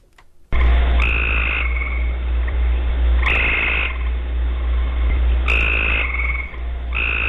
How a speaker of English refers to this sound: Wow, that's a loud tree frog that really making a racket.